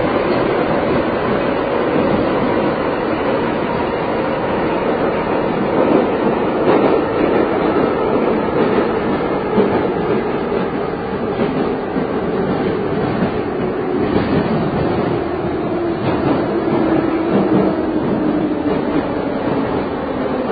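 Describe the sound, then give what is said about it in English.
A Moscow metro subway train rumbles steadily along, a loud continuous roar of wheels on rails with squealing and rattling, the pitch shifting slightly as the car moves, with no voices. “Maybe we should be quiet for a few moments so people can enjoy the real Moscow subway station.”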